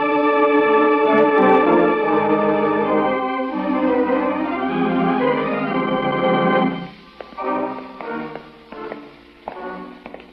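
A sustained, droning musical tone with heavy reverb fills the first several seconds, then gives way to a series of sharp, echoing taps like the footsteps of someone coming.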